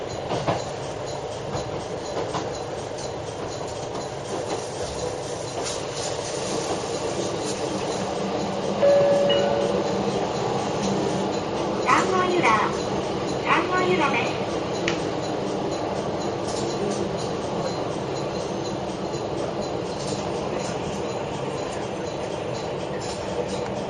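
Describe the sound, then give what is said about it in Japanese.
A train bound for Amanohashidate runs steadily along the rails with a continuous rumbling roar, faint rhythmic clacking and occasional metallic squeals and clinks, heard from on board for the whole stretch. “この列車は天橋立まで、最後ゆうゆうを発見運転。”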